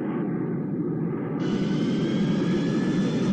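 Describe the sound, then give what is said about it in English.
A loud, steady roar of an airplane engine fills the whole stretch, growing brighter and hissier partway through as a thin high-pitched whine rises over the rumble, from news footage of an airplane flying into a building on 9/11. No one speaks. “so here's what we saw on 9/11, where the entire airplane just melts into the building.”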